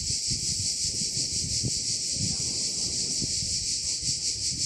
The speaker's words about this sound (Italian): ma so che le cicale sono una gran bella distrazione rispetto alle sue parole.